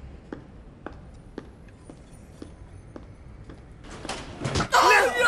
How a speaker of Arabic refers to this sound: لك شو كيف وفات الباب براسي وصار وضعي أسوأ من قبل كمان؟